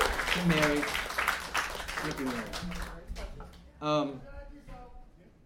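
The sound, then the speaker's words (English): A room full of people at the Fantastic Fiction at KGB reading series claps for a few seconds, the applause mixed with chatter and voices, then it thins out and a single voice carries on alone. “Let's everyone give an applause.”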